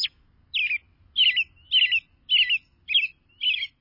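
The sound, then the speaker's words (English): A robin sings a clear series of seven short caroling phrases, each a bright warbled whistle separated by brief pauses in a steady rhythm, with faint low background rumble. “In each song, a robin sings a varied selection from a repertoire of 10 to 20 different caroling phrases.”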